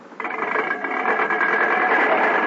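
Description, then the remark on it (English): A car being brought in for a sales demonstration starts up after a brief pause and runs as a steady, fairly loud mechanical drone with a buzzing, slightly rattling tone, holding even throughout without any voices. “Bring the car in.”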